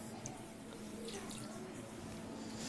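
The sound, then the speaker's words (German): Water is poured into a blender jar after a little lemon juice, a continuous splashing trickle with small bright drips and splashes, lasting a few seconds at an even level. “So, wir tun dann Zitronensaft und so Zitronensaft war ganz wenig drinnen und Wasser dazu.”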